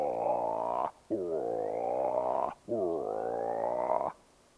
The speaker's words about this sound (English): Frogs of all kinds.